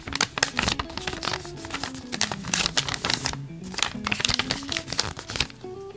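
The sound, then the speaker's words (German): A sheet of paper is folded three times, with a run of crisp crinkles and sharp crackles spread over several seconds, over a faint tonal sound in the background. “Jetzt habe ich ein Blatt Papier dreimal gefaltet.”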